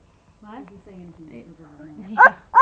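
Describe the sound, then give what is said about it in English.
A child makes two short, loud woof-like barks imitating a dog, coming right after a stretch of soft, murmured vocalizing. “The doggy, right.”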